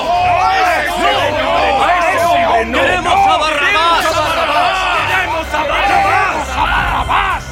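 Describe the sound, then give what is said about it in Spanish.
A large crowd shouts "No!" loudly and angrily, many voices yelling over one another in a dense, continuous, forceful roar, in a dramatized Bible reading, answering the offer to set free the king of the Jews. “Pero ellos contestaron a gritos: ¡no!”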